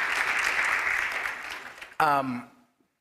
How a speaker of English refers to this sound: I would like for you all, if you don't mind, I know they don't need this, but for the sake of them being willing to do this, please give a round of applause to Deacon Blanchard, Deacon Carl, and Deacon Justin.